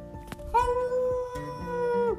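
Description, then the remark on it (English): Five dogs howl together in long, drawn-out, wavering tones that overlap and hold steady, fairly loud, with no talking. “There were 5 moon dogs floating in the air above moon.”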